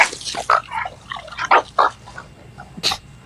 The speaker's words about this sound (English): Dogs are fighting.